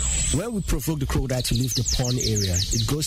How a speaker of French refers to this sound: Le soleil se couche et les oiseaux chantent lorsque j'arrive au jardin botanique de Limbe.